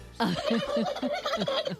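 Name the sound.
turkeys gobbling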